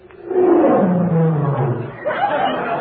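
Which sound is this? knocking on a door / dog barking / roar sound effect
roar sound effect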